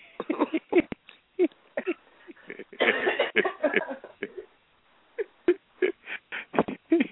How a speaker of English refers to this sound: Yeah. Excuse me, sorry about that. How you feel? That's enough to make you cough.